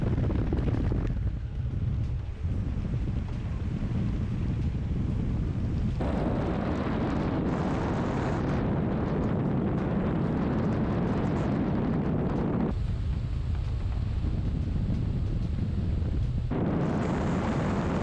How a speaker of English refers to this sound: At about a minute in the video, the engine of the plane appears to die.